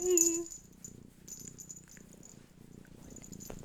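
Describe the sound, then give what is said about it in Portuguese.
A female cat purrs in a steady, low rumbling drone that runs the whole time, opening with a brief higher tonal sound before settling into the continuous purr. “Vocês conseguem ouvir o purr?”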